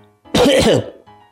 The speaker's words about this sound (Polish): Chuj wie, jaki to kaszel. Przypisuję syrop na kaszel mokry i suchy w takim razie.